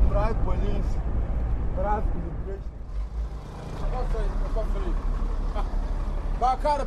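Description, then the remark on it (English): A heavy cargo truck engine rumbles low and steady, its drone swelling partway through as the truck is cleared and pulls away at the Paga border post, where a fleet of cargo trucks waits to pass, while several people talk loudly over the noise. “At the border, a fleet of cargo trucks are waiting to pass. Very quickly, one of them was cleared and took off”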